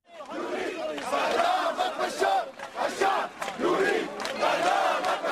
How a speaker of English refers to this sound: A team of about 60 observers arrived in the city of Homs yesterday, where crowds chanted, "The people want to execute you, Bashar," from unverified YouTube video.